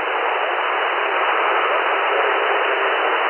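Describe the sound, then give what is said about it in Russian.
A steady, loud hiss of radio static fills the whole stretch, a dense, even band of noise with a thin, tinny quality, unbroken and without any voices. “Один, два, три, статик, статик”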